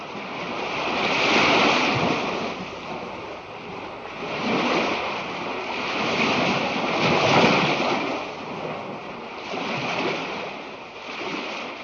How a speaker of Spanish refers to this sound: En una marejada, las olas se levantan y al caer arrastran consigo burbujas de aire. Estas suben a la superficie, donde se disgregan, llevando a la atmósfera gotas microscópicas del agua marina.